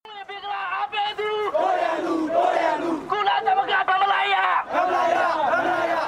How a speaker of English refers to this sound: The protesters chant on their way to Kai San Road in Tamwi in Yangon. They're screaming, "Those who support Bengali are our enemies. UN should not be biased. We don't want unfair pressure. Rohingya is not in Myanmar. Don't insult to our country.